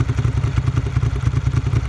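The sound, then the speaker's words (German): A Triumph Trident motorcycle engine runs with a steady, throbbing low rumble and rhythmic pulsing, sounding like it idles or revs lightly, with no voices present. “Wie heißt denn dein Motorrad? Es heißt schnell. Eine Triumph Trident.”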